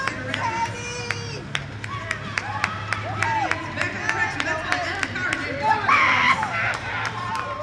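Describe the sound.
A sparse crowd of about 50 people cheers and shouts at a roller derby bout in the David S. Palmer Arena, with scattered hand claps and sharp clacks over a steady low hum; one voice rises louder near the end.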